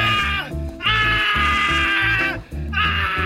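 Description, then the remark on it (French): A screaming machine, worked by pressing a small button, blares loud, shrill, bleating screams with a bellowing edge in three long bursts separated by brief gaps, harsh, with no talking. “Écoutez, en appuyant sur ce petit bouton, on peut produire des cris stridents, des hurlements terrifiants ou même des beuglements assourdissants.”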